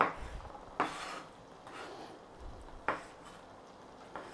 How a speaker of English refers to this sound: Okay, we've chopped our sausage. And we're chopping it into chunks. We want chunks of sausage in there.